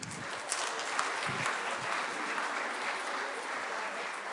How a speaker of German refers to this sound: Ja, dann vielen Dank an euch. Applaus für die 7.